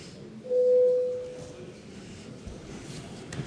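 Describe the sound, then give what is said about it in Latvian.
A single steady electronic bell tone, called for before a parliamentary vote, sounds for about a second, strong at first and then fading, over a low background rumble. “Lūdzu zvanu.”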